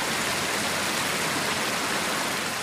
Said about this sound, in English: The fluid getting the final treatment looks like river water flowing through a flat fountain bed. We're basically taking what nature does and we're doing it at a much higher and faster level.